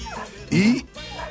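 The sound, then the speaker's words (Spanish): A large shaggy Old English Sheepdog gives a single short, loud bark that rises into a whiny, whimpering yelp, with faint voices talking in the background before and after. “Y mi perro, para la gente que nos está escuchando, es un pastor inglés.”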